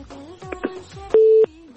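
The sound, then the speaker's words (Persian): A phone line tone sounds after a caller to a radio call-in programme is cut off by the host: a steady electronic beep holds for about a third of a second, preceded by short clicks and faint tonal line noise, no voices. “خب تماسشون قطع میکنم به خاطر از اینکه باید مراعات کنن که وقتی تماس میگیرن متوجه باشن.”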